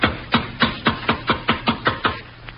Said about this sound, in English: There's some light showing around this bulkhead door. Knock. Here goes. Again. Can't understand it.